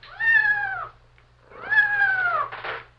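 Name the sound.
cat meowing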